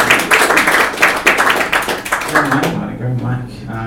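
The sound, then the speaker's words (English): An audience applauds the hosts of the day, a dense crackle of many hands clapping for about two and a half seconds, then the clapping thins out as a voice starts talking. “Look, I don't really have a backstage to emerge from in any sort of grandiose fashion, but if you want to, for the recording, put a nice little applause together for your hosts for the day,”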